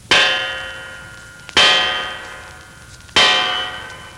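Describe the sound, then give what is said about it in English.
A guard strikes a bronze door knocker on a door with bronze fixtures three times at an even, unhurried pace, each loud metallic clang ringing out and fading before the next. No one speaks. “Everything bronze, even to a knocker. Hey, watch. One of the guards is going to use it.”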